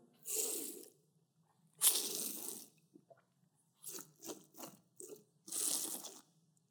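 Noisy slurping of water and air through a straw, air rattling with bits of water: two long sucking bursts, then several short sputtering pulls and a final long slurp, with no talking.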